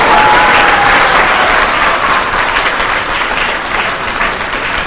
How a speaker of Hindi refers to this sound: ताली बजानी अच्छी तरह बजाओ, टिप टिप क्या कर रहे सारे बजाओ।